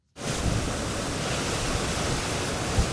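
A dense, roaring wash of storm noise from Typhoon Kalmaegi making landfall on the Vietnamese coast sets in almost immediately and holds steady and loud, with intense gusting winds and heavy driving rain and no voices.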